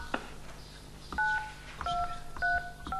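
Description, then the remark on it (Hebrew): A series of telephone keypad tones, each a steady dual-pitched beep lasting a fraction of a second, pressed in an uneven sequence with short gaps and a low background hum, as keys are pressed in response to a phone menu prompt to press one. “הקישו כעת, אחד”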